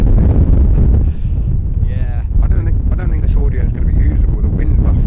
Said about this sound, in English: It is still windy. It's unbelievable.